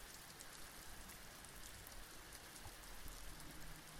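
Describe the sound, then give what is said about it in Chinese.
Steady rain falls outside, a dense, even patter of drops with no breaks, fairly soft, with no voices present. “而且外面还在下雨，下雨不是睡觉的最好天气吗？”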